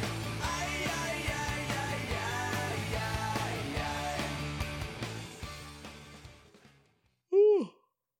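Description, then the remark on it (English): Music plays and fades out, then a single short, loud yawn comes from a person, its pitch rising and then falling. “I gotta stop yawning, dog.”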